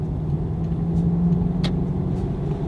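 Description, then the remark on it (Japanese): Steady, low engine and road rumble from a car in motion as it heads onto an expressway through an ETC gate, holding an even level throughout with no talking; a single faint click sounds briefly midway. “初の今この車で高速を乗ろうとしております。”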